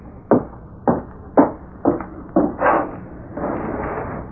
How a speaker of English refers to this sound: He gave the impression of waiting for something, and when a soft rapping was heard at the window, he jumped nervously to his feet.